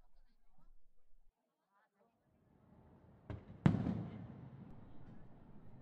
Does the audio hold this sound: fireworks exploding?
yes